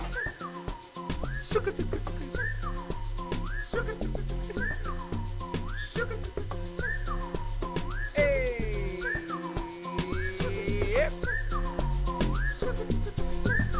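An upbeat electronic dance track with a pulsing bass beat, topped by a bright whistled melody that repeats in short rising-and-falling phrases, with a sliding synth swoop midway.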